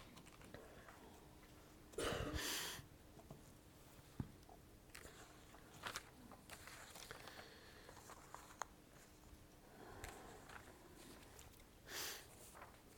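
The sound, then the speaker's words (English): Paper notes being shuffled as a speaker gets them in order: a loud burst of rustling, then scattered soft crinkles and light taps, and another brief rustle toward the end. Nobody speaks. “Just going to get my notes in order.”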